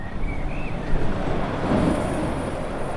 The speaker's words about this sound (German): Ein Industriegebiet im Osten der Stadt Hamm in Westfalen, im Stadtbezirk Üntrop. Es ist früher Abend und es ist wenig los. Nur gelegentlich rauscht noch ein LKW die Straße entlang.